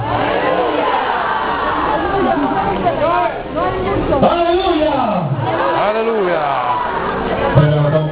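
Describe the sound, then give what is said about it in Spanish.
An audience shouts ¡Aleluya! together in Spanish, many raised voices overlapping in a loud, sustained roar, with a slight surge near the end. “Gritarás todos conmigo.”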